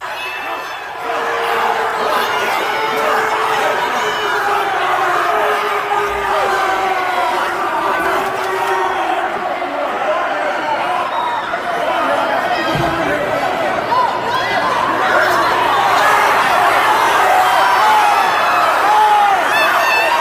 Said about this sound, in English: Just take a listen and look at what happened as people are outraged, trans activists, others storming the building. Listen to what it sounded like.